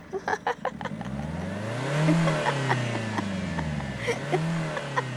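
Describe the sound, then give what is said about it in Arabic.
The engine of the car Nafoula, in a story, sputters with a few choppy bursts, then roars to life and revs loudly, its pitch climbing and falling in repeated sweeps, with no talking. “احمرت عين نفولة ودار محركها رغما عنها”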